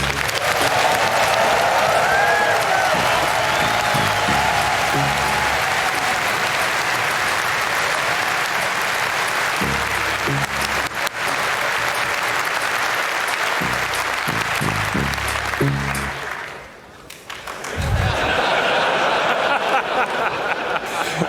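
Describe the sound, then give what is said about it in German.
Loud, sustained audience applause fills the whole stretch, a dense wash of clapping with scattered cheers and whistles, briefly dipping near the end before swelling again. “Einmal den größten Applaus, den ich hier je gehört habe, bitte.”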